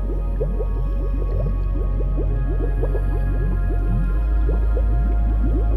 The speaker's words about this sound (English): Over time, the bubbles seem more intense as they rise out of the water. And as they do, they turn to white water that cascades back into the lake.